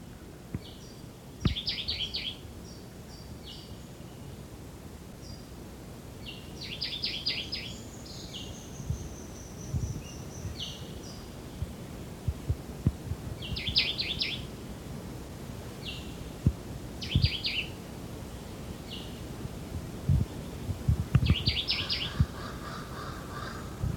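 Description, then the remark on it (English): A Jamaican white-eyed vireo, also called woodbelly, sings short, bright phrases ending in a low buzz, repeated every few seconds, about 30 meters away in dense vegetation along a ridgetop, with crow caws and a low rumbling background. “Yeah, this is the Jamaican white-eyed or woodbelly.”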